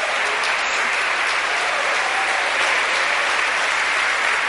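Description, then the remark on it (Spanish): An audience applauds loudly and steadily for the Lord, a dense wash of many hands clapping at once that fills the whole stretch without pause, with no one speaking over it. “Démosle un aplauso fuerte al Señor.”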